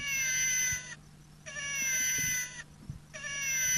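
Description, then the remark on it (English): A battery-powered electronic felid attracting phonic (FAP) lure loops a repeated cat-in-heat yowl, meant to imitate a single cat in heat: long wavering harmonic wails separated by brief pauses, faint and steady over a low background hum. “we use a special, they're called FAPs, felid attracting phonics, and they make a call like a cat in heat, and I just wanted to make sure that the batteries were still functioning all right in that phonic.”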